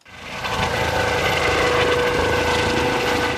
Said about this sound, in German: Ein Hubschrauber der Bundespolizei zieht eine riesige Plastikbadewanne voller Wasser mit sich in die Höhe, fliegt und wirft das Wasser ab. Immer wieder.